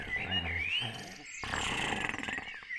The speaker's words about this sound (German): Er legte sich also auf die Lauer und schon nach kurzer Zeit war von innen ein Schnarchen zu vernehmen.